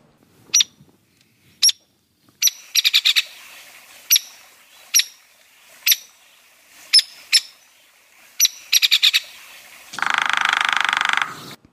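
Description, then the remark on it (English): Sharp, high hairy woodpecker peek calls ring out one at a time at irregular intervals, mixed with a few quick rattling runs of notes, ending in a harsh, buzzy burst. No one speaks. “The most common call of the hairy woodpecker is instead of the pick, pick, pick of the downy, it's more like a peek.”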